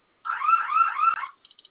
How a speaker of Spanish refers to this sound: ¿Se silenció la alarma? Sí, ya se apagó.